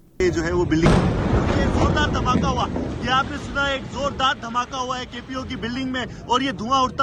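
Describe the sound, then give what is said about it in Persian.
A sudden, loud explosion at the central police headquarters in Karachi, Pakistan, stormed by suicide attackers, bursts about a second in, leaving a rumbling, wind-buffeted roar behind it while a man keeps talking excitedly over the noise; live Dawn TV footage. “گزارش دهی زنده تلویزیون دان از لحظه یک انفجار در قرارگاه مرکزی پلیس در شهر کراچی، بزرگترین مرکز تجارتی پاکستان.”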